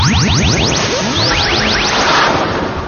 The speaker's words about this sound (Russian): Сплошные помехи, бесконечная толкотня.